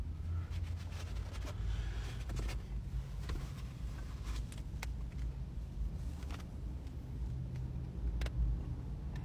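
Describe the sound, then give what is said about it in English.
A steady, heavy low rumble from inside a moving car, with faint road noise, wind and occasional light clicks over it. No one speaks. “And satellite radio, unfortunately, I'm in my wife's car, so I don't know.”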